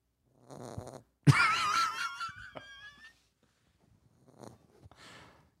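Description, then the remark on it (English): A female dog snores, a few wheezy, whistling breaths with one long, loud, whining snore in the middle and softer snuffles before and after. No one speaks. “You know what's funny is your dog snoring.”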